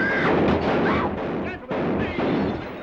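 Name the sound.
gunshots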